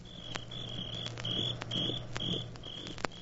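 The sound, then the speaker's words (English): Crickets chirp on a summer evening on a porch in a steady, repeating rhythm of short, high trills, moderately loud, over a faint low hum with no one talking. “Simple. The sound of crickets. Crickets always indicate a summer evening on somebody's porch.”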